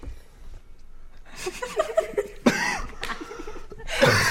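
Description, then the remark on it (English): A run of harsh, repeated coughs, several rough bursts in quick succession with ragged breaths between them, building into a coughing fit over a few seconds. “No, it's coughing attack.”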